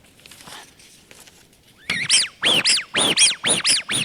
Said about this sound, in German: Deswegen haben diese ganzen Enten heutzutage keine Pfeife mehr drin, die das Quietschen verstärkt, sondern das Ganze ist auch limitiert, wie laut so eine Ente sein darf. Wir machen mal kurz den Test.